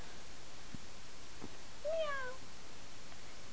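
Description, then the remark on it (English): A single short meow from a female cat, rising then falling slightly, heard clearly near the middle against a steady low background hiss, with no talking. “You want to lay your head down on the kitty?”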